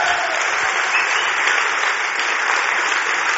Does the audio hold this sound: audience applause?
yes